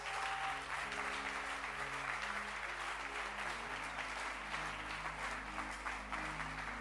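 An audience in church claps their hands in a steady, sustained burst of applause lasting several seconds, with low organ-like sustained tones underneath and no talking.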